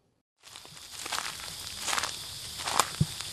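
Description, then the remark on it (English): Steady footsteps crunch along a little lane leading towards the Riverstone Wetlands, west of Sydney, with scuffing and rustling over a constant hiss of background noise, no one speaking. “We're just walking down a little lane which leads towards the Riverstone Wetlands.”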